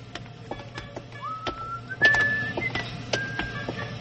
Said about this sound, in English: Why do you keep whistling if it makes you cold? I like to whistle.